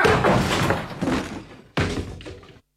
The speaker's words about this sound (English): Oh. Locked! Anyone in there? Doors don't lock themselves. I know that. Within there! Break it down.